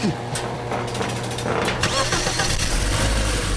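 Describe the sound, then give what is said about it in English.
A car engine cranks and catches, then settles into a steady, low rumbling purr with a dense mechanical hum, while people talk over it. “Hear that purr.”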